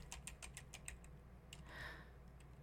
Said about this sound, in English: Oh my god, I just keep typing random letters and deleting them over and over again.